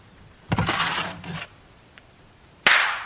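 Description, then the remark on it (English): Two sharp, loud hand slaps against skin, swatting a fly on a woman's back. The first is followed by a brief rustling wash of noise, and the second arrives a couple of seconds later as a crisp smack. “Don't kill a fly on your wife's back.”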